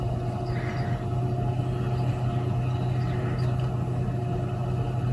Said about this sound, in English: Here is a tractor with a topper on the front. As it drives along, it chops all the tops off the carrots.